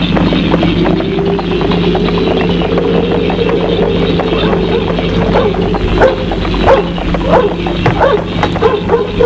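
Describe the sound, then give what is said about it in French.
A dog at a farm barks repeatedly in quick bursts at night over a constant background rumble, with clip-clopping horse hooves mixed in as a rider arrives. “Le chien aboie.”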